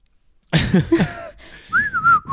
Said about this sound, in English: Oh, just someone was just whistling on the street.